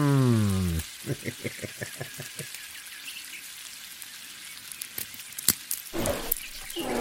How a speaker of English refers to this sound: Did you hear that? No. I didn't hear a thing over this. Oh, so sizzling bacon.